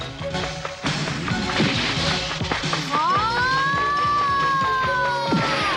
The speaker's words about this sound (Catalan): Allarga el bastó! Atenció! D'un sol cop abat tres soldats que li barren el pas.